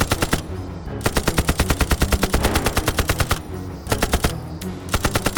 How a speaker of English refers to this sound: Flame erupted all around the fuselage as the machine guns ripped to life. Tracers streaked from the Pucara and converged on the rising helicopter.